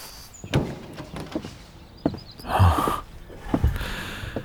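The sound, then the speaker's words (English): A male horse snorts and blows in a few breathy, rushing bursts, with a longer snort near the middle, scattered among dull thumps and shuffling. No one speaks. “Besides, it's high time I introduced you to my horse.”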